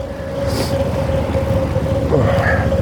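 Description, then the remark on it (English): A steady rumble of idling car engines with a constant droning hum from a line of cars waiting to get into a parking garage; the traffic noise holds unbroken throughout, with no voices. “Man, look at the lineup of cars waiting to get into the parking garage.”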